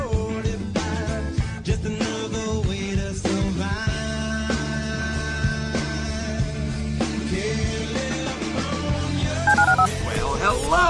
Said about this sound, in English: Dial the phone.